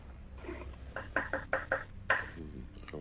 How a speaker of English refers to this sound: I can hear a knocking. I can hear a knocking in the... Oh, there it is again. Are you chopping parsley or something right now?